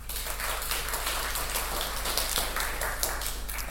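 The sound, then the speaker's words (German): An audience claps steadily for a few seconds to welcome a speaker about to give a talk on software licensing, a dense, even patter of many hands with no voices over it. “Bitte einen Applaus für Andreas.”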